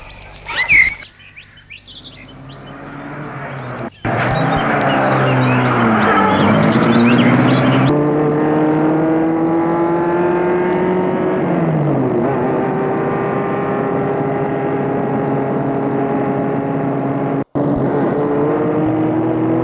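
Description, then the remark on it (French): A few bird chirps, then a car engine turns over and catches, revving up loudly and settling into a steady drone as the car pulls away, with rising and falling engine pitch. “Et il met la voiture en marche.”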